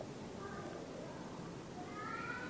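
A cat meows softly twice, a short call early on and a longer, rising one near the end, set against a steady hiss of background noise.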